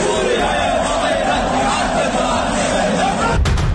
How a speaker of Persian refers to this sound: هواداران حاضر در ورزشگاه آزادی پیش از شروع بازی و در دقیقه 21 وریا قفوری رو تشویق کردند که البته صدای تشویق‌ها در پخش زنده تلویزیونی این بازی از دقیقه 21 قطع شد.